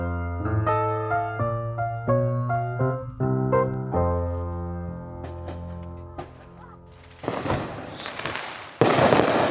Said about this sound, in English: No, this is not a shootout here in Texas. These are just New Year's fireworks.